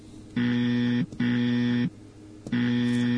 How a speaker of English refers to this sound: Buzzer's not very loud. I'm going to make my buzzer real loud because I'm in a loud buzzer mood. There.